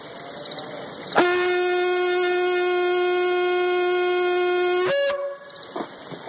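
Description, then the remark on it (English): Shofar horns blown for Yom Teruah in one long, steady blast of nearly four seconds, a loud, brassy, buzzing tone that holds a constant pitch before cutting off, with faint cricket chirping before and after. “Turn them horns loose.”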